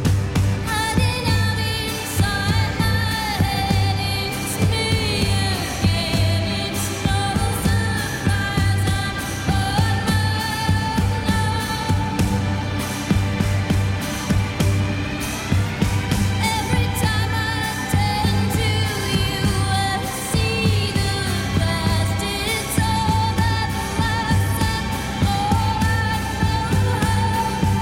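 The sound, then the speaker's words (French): A recorded song, the opening track of a new album, plays on its own, with dense sustained instruments and melodic lines holding a steady, fairly loud level throughout and no talking over it. “…, c'est le titre du morceau à venir qui ouvre ce nouvel album d'…”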